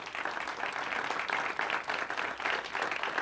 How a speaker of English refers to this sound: Could we have a round of applause for them?